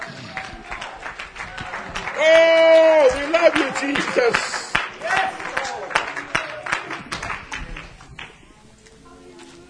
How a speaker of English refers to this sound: Oh, somebody clap their hands unto the Lord and give him some praise.